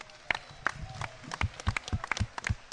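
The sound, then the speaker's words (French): A small audience in Perpignan applauds with scattered, uneven claps, thin rather than thunderous, with no voices over it. “Pour elle aussi, mesdames et messieurs, et pour la mairie de Perpignan, une petite bordée d'applaudissements ne serait pas de trop.”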